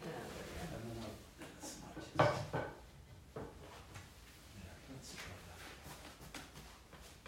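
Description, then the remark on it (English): A chair scrapes and bumps briefly across a hard floor as it is moved a little further, one short rough shuffle with a knock, amid faint room sounds and soft background voices. “Could bring your chair a little bit further so that it's on the”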